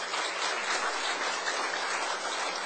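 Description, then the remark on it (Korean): An audience claps their hands together to give glory to God, in sustained, dense applause, a steady crackling wash of many overlapping claps with no talking over it. “우리 박수 한번 치겠습니다.”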